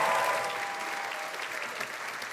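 A crowd applauds steadily, a dense wash of many hands clapping at an even, fairly loud level throughout, with no one speaking over it.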